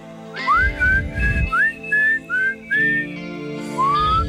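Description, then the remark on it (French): Someone whistles a short tune, a string of about seven clear notes, each sliding upward, with brief pauses between them and a faint low rumble underneath. “Non, c'est bon, hey, faut s'en siffler.”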